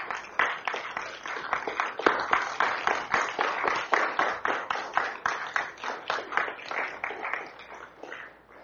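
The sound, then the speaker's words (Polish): A church audience applauds the pastor and his wife steadily for several seconds, many hands clapping in a dense, continuous wash with a loosely rhythmic pulse, sustained at an even level without voices. “Proszę wstańcie i razem może oklaskami, rękami wyraźmy, jak bardzo ich kochamy i jak bardzo ich cenimy.”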